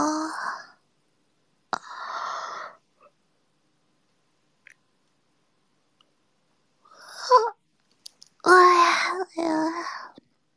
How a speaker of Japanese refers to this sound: あくびが止まらないですね。